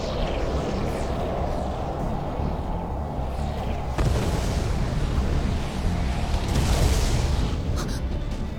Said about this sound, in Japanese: 爆縮。 ノルマンディ右舷で爆発。取り付いたネルガルの一部が爆縮した模様。